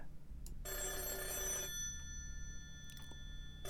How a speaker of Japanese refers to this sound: お、早速お誘いの電話が。